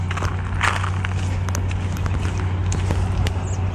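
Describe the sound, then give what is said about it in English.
Irregular footsteps crunch and scrape across ice, a handful of careful steps by a person walking on ice, over a steady low rumble of background noise, with no one speaking. “It's talking and walking on the ice.”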